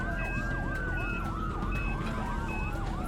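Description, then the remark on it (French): An ambulance siren wails in rapid repeating sweeps, loud, over the steady rumble of road traffic with no one speaking; the ambulance is rushing a critically ill 66-year-old man from his home in Christiansburg, Virginia, to hospital on 14 October 1996. “Si l'ambulance n'atteint pas l'hôpital très vite, le vieil homme risque de mourir.”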